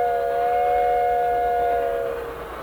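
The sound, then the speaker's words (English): A steady, sustained whistle of the train Big Dixie sounds for over two seconds, a bright harmonic tone that holds level and then slightly fades, with faint rumbling background and no talking. “Blow your whistle, Big Dixie. Just keep reminding me.”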